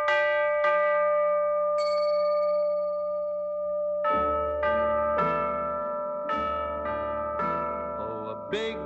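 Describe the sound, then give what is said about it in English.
Bright chiming bells ring out in a musical recording, a few sparse strikes with long ringing decays at first, then repeated bell tones over a fuller instrumental backing. “Sounds like a mighty gong, and a little bell just makes a tiny clink.”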